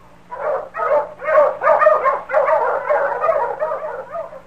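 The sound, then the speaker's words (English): A dog, King, Sergeant Preston's wonder dog, barks in a rapid, excited string of about ten yips and barks, fairly loud, the barks running together with no other sounds or voices. “Now back to the days of the gold rush when Sergeant Preston and his wonder dog King battled through storm and snow to preserve law and order as they met the challenge of the Yukon.”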